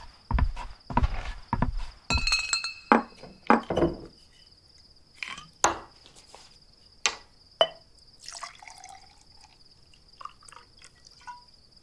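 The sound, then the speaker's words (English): A bartender pours a strong drink at a bar: glassware clinks and knocks in a quick cluster, then liquid pours and trickles with scattered lighter taps. A thin, steady high ringing hangs over everything, and no one speaks. “So put that gun away and pour us a drink.”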